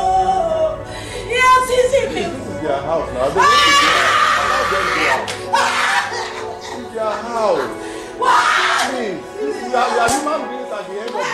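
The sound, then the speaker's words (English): A woman screams and wails in anguish, her cries rising in long, strained bursts over several seconds, loud, broken by sobbing gasps between the outbursts. “It's the way she screams. Now that's what misery sounds like.”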